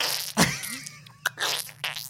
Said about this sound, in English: Yeah, hold on, I gotta clear my throat.